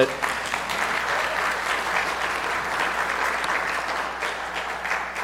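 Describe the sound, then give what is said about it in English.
A crowd claps steadily in sustained applause for the worship team, tech crew and live stream crew, a dense, even patter of many hands at a fairly loud, constant level for several seconds with no voices standing out. “Can you guys give them a round of applause?”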